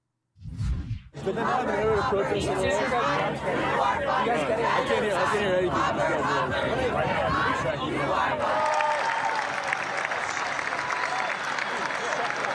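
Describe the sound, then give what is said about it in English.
A large crowd at a University of Michigan graduation cheers and applauds loudly as protesters are removed, a dense, steady roar of clapping and shouting that swells quickly after a brief start and carries on for over ten seconds. “And here was the crowd's response when those protesters were removed.”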